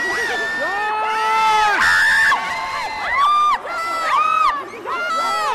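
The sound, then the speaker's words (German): A large crowd of women shrieks and cheers at a celebrity's arrival on the red carpet, in loud, sustained, overlapping high-pitched screams, with rising and falling squeals layering over one another in a continuous excited din. “Wenn 42-jährige Frauen kreischen.”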